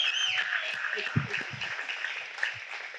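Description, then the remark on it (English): A church audience claps steadily in a dense wash of applause for those who have just submitted their lives to Jesus, with scattered cheers, a whistle and voices mixed in and a few sharper low thumps standing out. “And if you submitted your life to Jesus right now, I want you to know this church loves you, and we're going to clap for you right now.”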